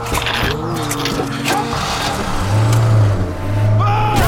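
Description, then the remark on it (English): A van's engine drones low and steady, then revs up and grows louder partway through as it accelerates away, with agitated voices shouting over the motor. “Get in the van! Drive!”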